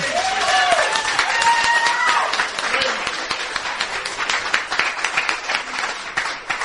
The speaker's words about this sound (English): Praise God. Praise the Lord. Give the Lord a cheer, folks.